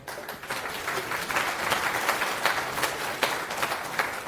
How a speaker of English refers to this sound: Round of applause.